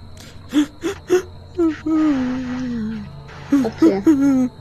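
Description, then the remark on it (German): Soft whimpering from below, heard on opening a door, in short, breathy bursts, a few quick whines, then a longer quavering moan that slides downward, followed by more brief whimpers. “Als du die Tür aufmachst, hörst du ein leises Wimmern von unten.”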